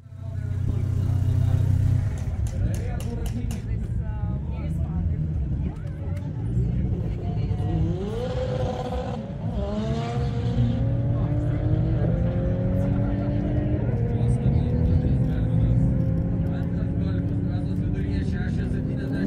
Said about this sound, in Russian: В Каунасе на аэродроме финал чемпионата Литвы по дрэг-рейсингу. Начали в субботу, закончили в воскресенье. Сотни команд, тысячи людей – машины до горизонта, мотоциклы, конструкции повышенной сложности.